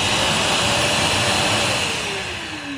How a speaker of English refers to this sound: Oh, it's a vacuum cleaner. That's right, Catters. It is a vacuum cleaner.